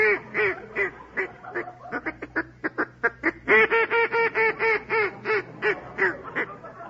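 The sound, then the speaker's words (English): A duck call is blown, producing a long run of loud, nasal quacks: short choppy bursts that speed up, then a steady series of drawn-out quacks, with no talking. “Wrap out a duck call”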